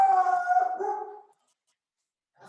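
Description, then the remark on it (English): A pet dog lets out a single drawn-out, wavering howl lasting over a second, fairly loud and tonal, then falls silent before a faint rustle at the very end. “And you have I've dog barking. I got my dog.”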